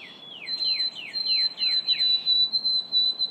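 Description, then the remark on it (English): A white-throated sparrow song: a sustained high, pure whistle runs throughout while about six quick downward-slurred whistled notes repeat at an even pace, clear and moderately loud over soft background hiss. “In Maine, the white-throated sparrow's melody is among those threatened by changes in the climate and by loss of habitat.”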